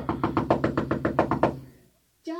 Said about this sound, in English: Knock louder. She's in there somewhere.